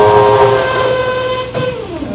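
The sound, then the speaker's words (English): Demolition noise from workers knocking out a wall: a loud, steady mechanical whine holds one pitch, then dips and wavers briefly near the end. No voices. “Oh, they're sure making a lot of noise in there. They're knocking out a wall.”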